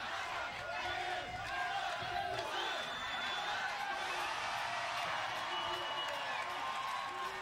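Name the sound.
crowd chanting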